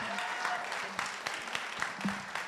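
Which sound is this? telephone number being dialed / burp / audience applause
audience applause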